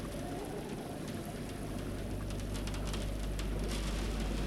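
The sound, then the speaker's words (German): Steady rain patters against a window pane during a thunderstorm, a dense, continuous wash of small drops with occasional sharper taps, moderately loud with no voices. “Der Regen klatscht gegen die Scheibe.”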